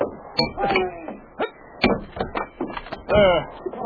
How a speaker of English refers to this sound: You're locked in. I'll have to break the lock. Let me get an axe.